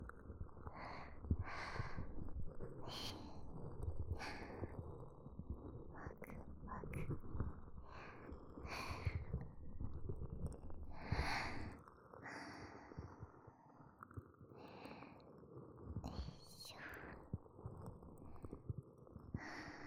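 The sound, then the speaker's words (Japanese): Wet, smacking mouth sounds mimic ear-eating: soft squelches and sharp clicking pops repeat irregularly over a steady, breathy rustle, quiet but continuous throughout, with no clear speech. “お耳食べられてるみたいですね。もぐもぐ。”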